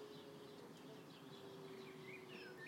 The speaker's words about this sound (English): There's a lot of bird activity still, but oh, it's a bit nippy out there.